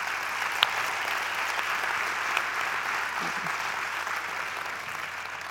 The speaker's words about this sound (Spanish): Un recuerdo para las familias de las víctimas y de todas aquellas personas que de manera directa o indirecta os habéis visto afectados por este desastre natural. Este fuerte aplauso, sí.